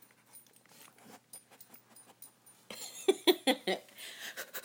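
A dog named Zappa, after eating apple and looking for more, sniffs in short, breathy bursts, quiet at first and then a louder run of about five quick sniffs near the end, with faint panting between.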